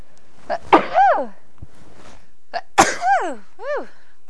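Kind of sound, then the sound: human body sound, sneeze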